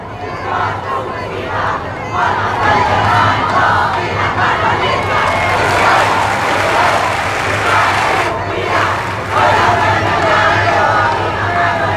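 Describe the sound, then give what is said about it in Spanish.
A large crowd, including supporters of former president Boric and President José Antonio Kast, shouts and chants continuously outside the Congress, a dense roar of many voices with swelling cries, steady and loud throughout with no clear individual words. “Sí, estos gritos que se escuchan ahí.”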